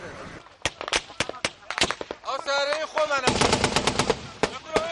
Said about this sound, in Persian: تصاویر اینجا موضع‌گیری 3 نفر در داخل هتل متروکه قصیر را نشان می‌دهد که در حال تبادل آتش با نیروهای کرد و امنیتی مستقر در این شهر هستند.